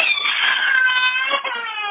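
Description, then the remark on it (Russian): A young child who has just bumped itself cries loudly in one sustained, high-pitched wail that barely wavers for about two seconds, with no talking over it. “Извините, тут ребенок стукнулся.”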